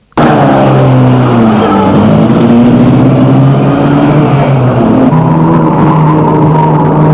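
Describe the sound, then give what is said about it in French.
A car engine catches with a sharp start, then roars loudly and steadily as it accelerates, its pitch climbing before dropping briefly as it shifts gear and pulls on. “Toi, tu as posé ta main sur mon bras et mis le moteur de la voiture en route.”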